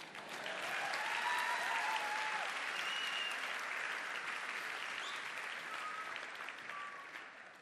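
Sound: audience applause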